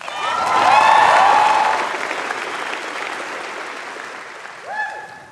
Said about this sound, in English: But amid all this acclamation for you, can we show how much their love and support means by standing with me to applaud and to cheer those who have brought you here?